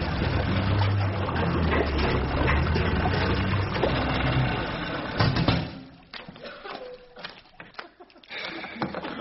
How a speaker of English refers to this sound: Yeah, the outboard's still working.